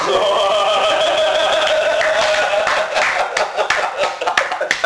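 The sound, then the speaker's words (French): A high, wavering tonal sound fades out, and then a burst of quick, uneven hand clapping with both hands follows for a correct quiz answer, sharp and fairly loud, continuing to the end. “J'ai applaudi les deux mains.”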